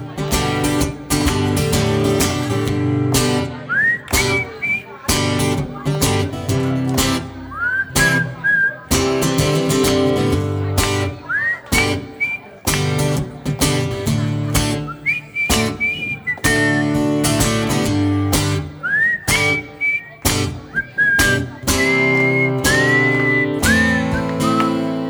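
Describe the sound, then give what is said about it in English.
A clear whistled melody with sliding, bending notes rides over a full band accompaniment, phrases repeating every few seconds at a lively, steady tempo. “Chance to whistle.”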